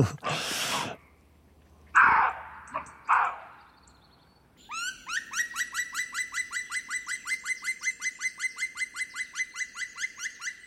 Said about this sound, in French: Chevreuil. Ça, c'est l'aboiement du chevreuil. C'est l'aboiement du chevreuil, oui. Ils sont deux, ils sont deux. Ils se répondent. Ils s'engueulent, simplement.